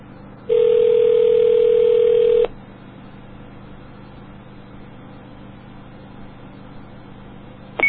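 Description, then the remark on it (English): A telephone ringback tone heard down a phone line on a call to a CoCot payphone: one steady two-second ring, a long pause filled with faint line hiss, then the next ring just beginning. “No one's going to answer, I don't think.”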